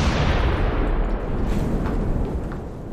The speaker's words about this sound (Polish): Dobra, dawaj ten dynamit. Tu jest taka szczelina. Odsuń się. Ląd jest krótki.